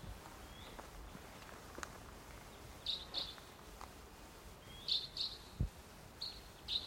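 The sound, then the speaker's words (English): A wild bird, perched somewhere about 150 or 200 yards away across a gully, calls: faint, short high-pitched notes arriving in pairs about every two seconds over a steady hiss of background noise, with no one talking. “Oh no, I still hear it. It's off to the... across the gully.”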